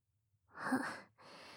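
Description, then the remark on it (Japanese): A big, drawn-out yawn: a breathy voiced swell that rises and fades, followed by a soft, steady exhale. It is quiet overall, with no talking. “すごいあくび。”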